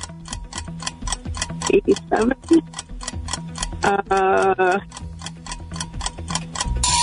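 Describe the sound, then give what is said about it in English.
A steady, fast ticking of a quiz timer runs through the whole recording, loud, with a person briefly speaking over it partway through. “There's the timer again.”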